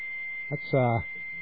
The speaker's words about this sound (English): That's a high-speed modem, isn't it? Yes, it is.